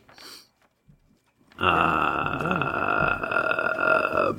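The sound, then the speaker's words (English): A brief breathy noise, a short pause, then one long, loud burp that rumbles on for nearly three seconds with a wavering, throaty pitch. “Burp.”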